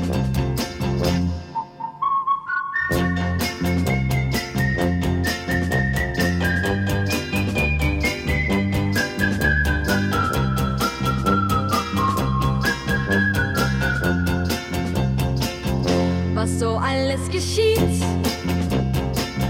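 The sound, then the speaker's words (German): A whistled melody rises, then steps gradually downward in clear sustained notes, riding on top of loud, steady band music with a driving beat. “Ja, die Girls und die Boys, alle pfeifen das Lied aus der Canopy Street.”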